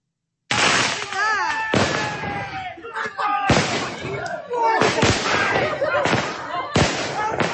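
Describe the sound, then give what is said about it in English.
Loud fireworks are launched outdoors by a gathered crowd of nationalists and locals outside an Islamic sect compound in Crewe, a rapid, irregular string of sharp bangs and crackling bursts, with people's voices and shouting carrying on underneath throughout. “Nationalists and locals have gathered outside the Islamic sect cult in Crewe and are launching fireworks.”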